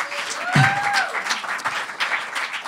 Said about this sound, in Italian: Quanti anni hai tu? 12, fate un applauso al futuro.